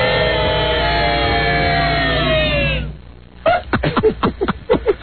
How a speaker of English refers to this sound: How about children booing? Okay. Boys and girls, here's your clown.